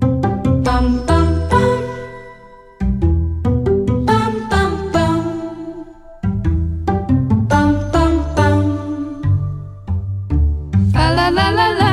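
A bright, upbeat holiday song intro plays loudly, with bouncy chords that stop and restart in short phrases and a shimmering shake of jingle bells rising near the end. No one sings yet.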